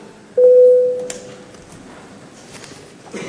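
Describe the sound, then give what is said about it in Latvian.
A parliament voting bell, rung before a vote on a proposal, sounds as a single loud, steady mid-pitched electronic tone lasting about half a second, then trails off, leaving quiet murmur and faint rustling. “Lūdzu zvanu.”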